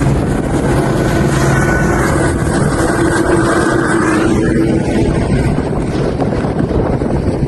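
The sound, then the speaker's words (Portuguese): A Centro Tático Aéreo police helicopter, mobilized with Military Police vehicles to an incident at a shopping mall in the capital of Maranhão, Brazil, roars loudly and steadily throughout, a dense, continuous rotor thrum with a rushing engine whine and no voices. “A ocorrência chegou a mobilizar viaturas da Polícia Militar e até um helicóptero do Centro Tático Aéreo.”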